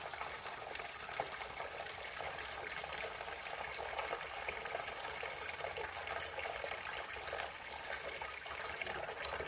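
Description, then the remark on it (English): Tap water runs in a steady, continuous gush while dishes are being washed, a broad hissing splash that holds even for the whole stretch with no voices. “So use the sound in itself as a meditation, the sound of running water.”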